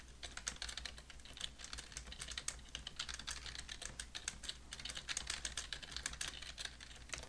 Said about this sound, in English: I am just so professional with my typing right in the middle of the show.